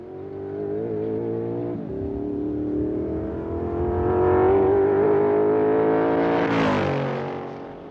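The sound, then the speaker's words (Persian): A car engine revs and accelerates up through the gears on a timed run of 1:30, its pitch climbing steadily before peaking and dropping away near the end, loud with no talking. The car's carburetor needs adjusting. “کاربوراتورشو باید تنظیم کنید. دست موتور سمت راستم شده.”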